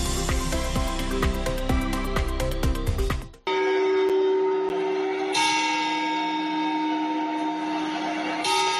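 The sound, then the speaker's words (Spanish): Clock bells in Cartagena ring the New Year's Eve chimes: a quick run of metallic strikes, then a sustained ringing drone that hangs steady and loud, with no voices present. “No, no están escuchando mal, no se equivocan, y es que en Cartagena ya han sonado las primeras campanadas.”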